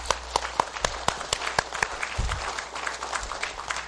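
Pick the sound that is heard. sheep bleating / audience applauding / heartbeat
audience applauding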